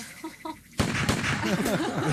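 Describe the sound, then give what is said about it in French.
A sudden loud gunshot, fired at an old diesel car, bursts out of a quiet stretch, a second sharp crack follows moments later, and then voices chatter and laugh over the lingering noise. “Pour les plus récalcitrants, ce ne sera qu'à la troisième balle qui sera à destination du réservoir que nous serons plus, disons, plus directifs.”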